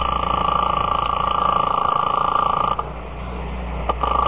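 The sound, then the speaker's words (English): A telephone rings on a long-distance line to a phone 2,000 miles away that goes unanswered, a steady, fairly loud electronic tone with a thin, filtered quality that breaks off briefly near the end and then starts again. “I sat there for a full 5 minutes listening to the ring of a phone I knew wasn't going to be picked up.”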